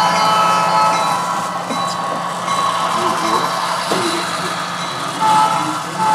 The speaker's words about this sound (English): We break for a train going by, which blows its horn at us. Turns out this is a relatively new feature of model railroads, with remotes now able to control lights, sound, and speed.